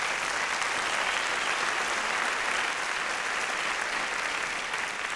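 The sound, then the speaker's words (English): Steady, dense applause from an audience, a continuous crackle of many hands clapping at an even loudness for several seconds, with no voices standing out. “Save your applause, because there are so many people.”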